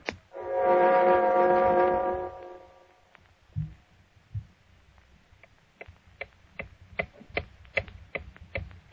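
A loud, sustained horn-like tone fades out, then a clock ticks steadily and evenly, its sharp clicks coming about twice a second and growing slightly louder, with no voices.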